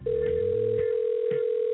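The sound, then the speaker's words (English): A steady electronic phone tone rings out continuously, the ringback of an outgoing call to someone on his birthday, while faint low murmuring sounds sit underneath in the first part. “The hell is your birthday and you don't answer the phone?”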